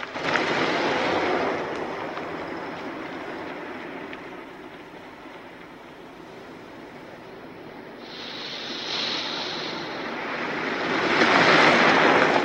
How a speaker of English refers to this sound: The van drives away.